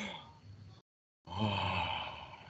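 yawn

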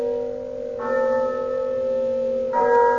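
church bell chiming

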